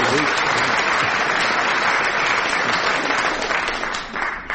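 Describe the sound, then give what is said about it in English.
Sustained audience applause for a correct quiz answer, a dense even patter of many hands clapping at steady loudness, tapering slightly at the very end. “Well, I think you get the mark there. And applause, too.”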